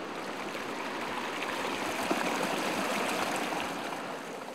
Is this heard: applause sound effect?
no